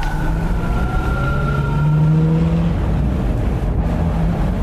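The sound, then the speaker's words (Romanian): A loud, steady bus engine drones, its low rumble carrying a few whining tones that rise and settle, with the wash of passing traffic around it and no voices. “Ah, v-a căzut când coborați din autobuz pe scară.”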